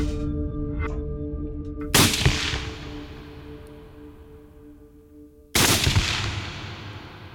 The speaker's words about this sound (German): Am 26. Juni 2006, um 4.50 Uhr morgens, stirbt Bruno der Bär auf der Kümpfelalm durch 2 Schüsse.